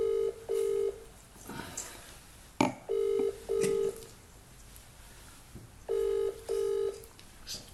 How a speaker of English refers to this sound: I can't imagine the surprise that you get a phone call at midnight